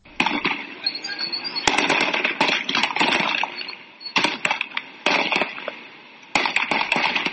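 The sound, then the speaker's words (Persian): Repeated sharp gunshot cracks ring out in irregular clusters, some loud, over a constant roar of crowd noise and shouting voices, during clashes between protesters and police at the Ahvaz–Ramhormoz road in Iran. “در برخی ویدیوهایی که در شبکه‌های اجتماعی از جمله صفحه توییتر روزنامه مردم سالاری منتشر شده صدای تیراندازی شنیده می شود.”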